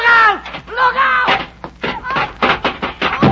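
A man is knocked off a ladder and falls with a clattering crash: a series of loud thuds and bangs, preceded by raised, strained voices crying out.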